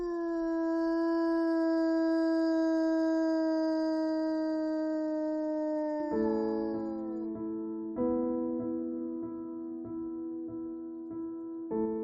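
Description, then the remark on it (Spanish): A Czechoslovakian wolfdog howls, one long steady note held for several seconds, then breaking into shorter wavering howls that overlap and shift in pitch, with no talking. “Te hablo del perro lobo checoslovaco.”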